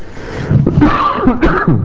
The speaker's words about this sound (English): I was not coughing before I came up here. Now I'm coughing.